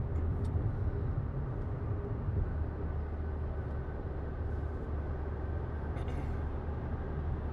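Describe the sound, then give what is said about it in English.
Steady low rumble of a car driving, heard from inside the cabin, with constant road and engine noise at an even level and no talking. “because nobody wants to listen to just the car driving.”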